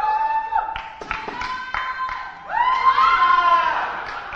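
A lively group cheers and shouts excitedly, supporting competitors in a chasing game, several high voices overlapping, punctuated by scattered claps and thumps, swelling into a louder burst of whooping toward the end.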